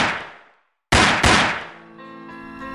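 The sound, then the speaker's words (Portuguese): Three loud, sharp gunshots ring out: one decaying at the start, then after a brief silence two more in quick succession, followed by sustained musical tones underneath; shots fired from a black Opala car in thick fog. “É o patrão da boca e dois aliados, os vidros se abaixaram, ele escuta os disparos.”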